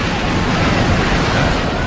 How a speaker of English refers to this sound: Oh, boy, here comes the animation. Comes the special effects parting of the sea. Imagine if they remade that today with today's special effects.